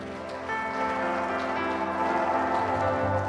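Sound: audience applause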